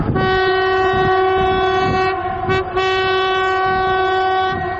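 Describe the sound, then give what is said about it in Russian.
A train horn blares loudly and continuously over the rumble of a train passing a station, with rhythmic clattering of wheels on the rails throughout. “Однако в общежитии строительной компании до сих пор остается множество сотрудников ЧОПа и рабочих, за передвижением которых приходится следить с дозорного пункта у станции, заодно приветствуя проходящие мимо поезда.”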